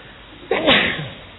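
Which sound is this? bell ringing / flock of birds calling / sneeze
sneeze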